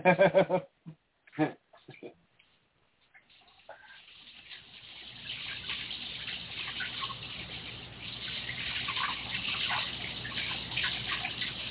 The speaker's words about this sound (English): I hear water.